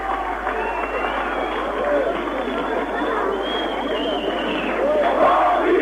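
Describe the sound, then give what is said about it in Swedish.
A large outdoor crowd cheers and shouts at a street demonstration in East Berlin as a man jumps off a tram to join the demonstration, a dense, continuous roar of many voices that holds steady and swells slightly toward the end. “Just nu hoppar en kille av från en spårvagn och det är därför folk jublar.”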